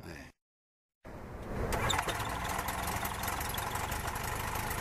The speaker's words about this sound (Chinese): 各项工作检查完毕，发动机开始试车。